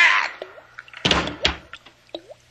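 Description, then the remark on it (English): A faucet lets out a few separate, pinging drips, with a short noisy gush of water in the middle. Fairly quiet, with no voices. “You'll never be able to hear that faucet again.”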